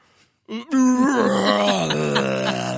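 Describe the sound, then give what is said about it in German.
A man's voice imitates a Godzilla roar: one long, loud, strained vocal wail with a low growling pitch and rich harmonics, held steady for about two seconds after a short breathy lead-in. “möchtest jetzt sicherlich noch hören, wie ich einen Godzilla nachmache, richtig?”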